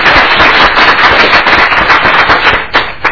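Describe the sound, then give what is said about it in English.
A crowd at a legislative committee hearing applauds to welcome visiting members of the Emerging Leaders group from the Red River Valley. Many hands clap in a dense, steady patter that stays loud throughout, with a few sharper claps standing out near the end and no voices. “If everybody could welcome them to our committee, they're observing the process today.”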